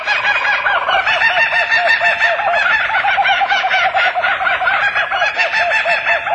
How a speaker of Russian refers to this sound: В Австралии обитает смеющийся зимородок. Местное население любит эту птицу не только за способность поедать змей, но и за шумный, веселый нрав.